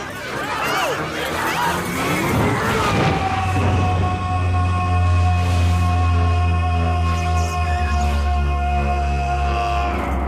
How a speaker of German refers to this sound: Klingt schrecklich? So sollte es eigentlich sein. Immerhin brüllt hier ein Märchenwesen, auf dessen Speisekarte Kinderfleisch ganz oben steht. Das ist der berüchtigte Schrei des Ogers in der Verfilmung von Shrek.